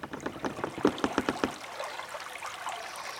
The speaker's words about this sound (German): Vorsichtig machst du ein paar Schritte auf die wackelige Brücke hinauf. Das alte Holz knarzt unter deinem Gewicht.